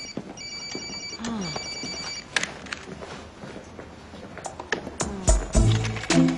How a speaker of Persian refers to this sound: نه خیر قربان، اون تلفن ترکید، جواب بده.